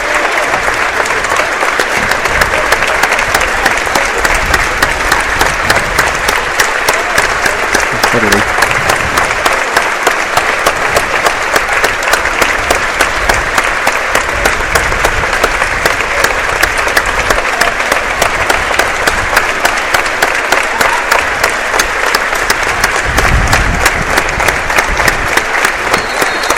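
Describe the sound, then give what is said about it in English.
An evening crowd claps steadily for the whole stretch, a dense, loud wash of many hands with no break, the sustained applause of a large audience. “I do apologise, but good crowd here this evening, and I say everyone a round of applause.”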